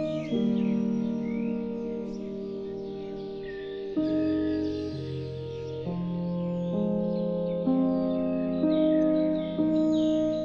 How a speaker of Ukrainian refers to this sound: Уяви, як вони співають для тебе, створюючи атмосферу затишку. Поглиблюйся в ці звуки з кожним вдихом і видихом. Зосереджуй свою увагу на співі пташок.